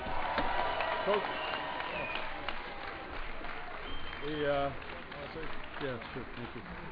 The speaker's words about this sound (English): Give the New York Giants a big round of applause.